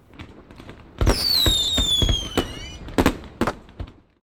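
Fireworks go off in a rapid series of sharp bangs and crackles, one whistling rocket streaking upward with a falling tone, followed by several scattered pops that trail off.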